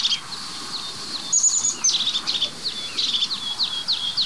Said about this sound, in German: Hört ihr dieses? Das ist ihr Ruf. Und so einfach, fast eigentlich nur aus einem Rhythmus bestehend. Drr, drr, drr, drr. Das ist die Meise des Kiefernwaldes, würde ich sagen. Das ist eigentlich die Kiefernmeise.